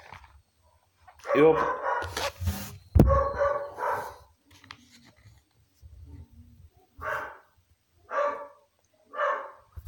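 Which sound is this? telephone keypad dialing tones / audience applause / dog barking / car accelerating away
dog barking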